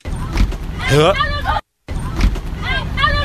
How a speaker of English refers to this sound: No, it's her hand. Girl's hand. Oh, my God. It's a woman's hand being slammed in a car door. The 3 Series Tesla.